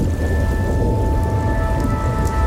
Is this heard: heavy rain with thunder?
yes